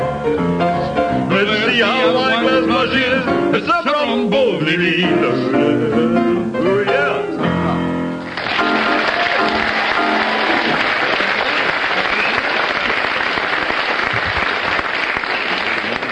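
Music with singing plays for about eight seconds, then breaks off as a crowd bursts into loud, sustained applause that continues steadily to the end.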